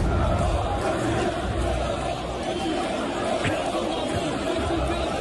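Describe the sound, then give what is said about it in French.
A large crowd chants the slogan "Quotidien Collabo" together at an Éric Zemmour rally, a loud, dense roar of many voices filling the space continuously, with indistinct shouting mixed into the din. “Quotidien Collabo, c'est ce que scandait la foule hier après-midi, extrait d'une vidéo d'un journaliste de la chaîne France Info présent sur place”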